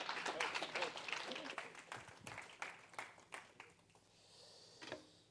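A church audience at a Sunday service claps in a dense burst of applause for a speaker making his way up, steady at first and then thinning out and fading over the last couple of seconds.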